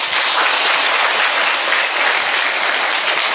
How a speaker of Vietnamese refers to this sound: Rồi, thứ nhì chịu khó ngồi vỗ tay to lên nha.